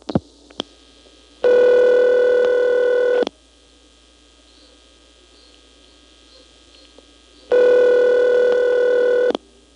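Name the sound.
telephone number dialed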